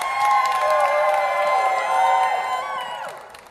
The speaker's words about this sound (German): Also es, vielleicht kann man da einen kleinen Applaus einspielen später.